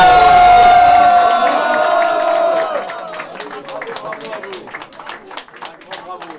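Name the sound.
audience applause and cheering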